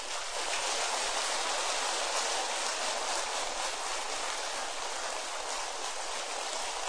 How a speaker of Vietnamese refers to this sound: Để chúc mừng cho lễ kỷ niệm 21 năm xuất gia này, thầy kêu gọi tất cả các quý Phật tử hãy dành một tràng vỗ tay thật to, thật lớn.